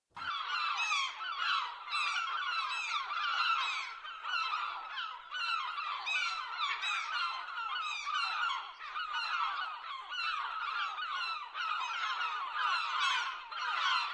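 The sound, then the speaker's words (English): A dense flock of seagulls squawks nonstop in Queen Victoria Square, facing the City Hall. Many harsh overlapping calls form a loud, steady clamour, with no one speaking. “Now here's your first chance to hear our squawking seagulls I mentioned during the introduction.”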